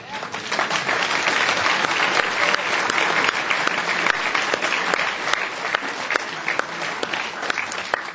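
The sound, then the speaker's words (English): An audience gives a final round of applause for an Inform event on neuroscience and music with Daniel Levitin and a guitarist: a dense steady wash of many hands clapping loudly for several seconds with scattered sharper claps standing out, no voices heard over it. “Well, let's give a big final round of applause for tonight's Inform foray into neuroscience and music with myself, Daniel Levitin, and the great composer and guitarist …, and with an extra round to thank … for sharing his musical”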